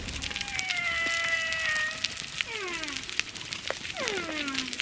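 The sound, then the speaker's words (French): Humpback whale song recorded underwater at a coral reef: a long, steady tonal moan followed by several descending, harmonic-rich wails, set against a crackling, hissy background with scattered sharp clicks made by parrotfish. “Alors là, j'entends le bruit de fond dont vous parliez, j'entends la baleine avec ce chant.”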